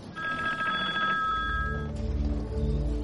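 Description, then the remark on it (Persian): A telephone rings with a bright, steady electronic trill for under two seconds as an anonymous caller rings a ship's telephone exchange with a bomb threat. Then it stops and a low, droning musical tone swells underneath. No one speaks. “یک نفر ناشناس تماسی گرفته با مرکز تلفن کشتی و گفته بود که رسم ساعت 2 کشتی میره رو هوا بمب‌گذاری شد.”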